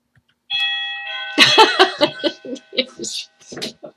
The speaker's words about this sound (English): And there's the doorbell. Yeah. We're on now. Okay. That was perfect, the doorbell.